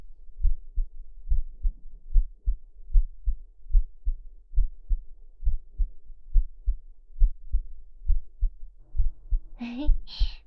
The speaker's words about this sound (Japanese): お兄ちゃんの耳に私の胸押し当ててみました。ねえ、私の心臓の音聞こえる？静かにするから聞いてみて。